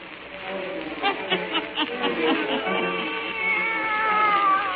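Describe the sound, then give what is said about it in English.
A black cat named Satan meows and yowls several times in close succession, with drawn-out, wavering cries that rise and fall in pitch, fairly loud. “And now let us join old Nancy and Satan, her wise black cat.”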